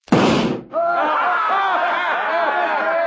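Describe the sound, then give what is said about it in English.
A single loud pistol shot, fired at a little gold eagle on a flagpole across the street, cracks out, a short, sharp burst, then a brief hush before a lively mix of overlapping voices and laughter follows. “Think you can hit that little gold eagle on that flagpole across the street?”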